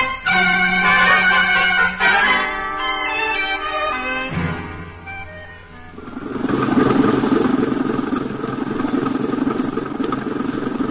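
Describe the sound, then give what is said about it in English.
An empty truck's engine idles, its steady tonal drone shifting in pitch a few times before settling into a rougher, louder rumble that runs to the end. No voices. “Okay, Pop. Truck's empty.”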